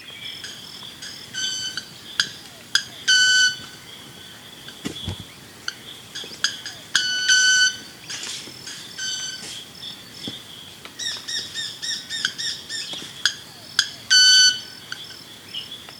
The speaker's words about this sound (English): While the wing is being vibrated, these club-shaped feathers knock against each other to produce a loud ting sound. Here's what that sounds like.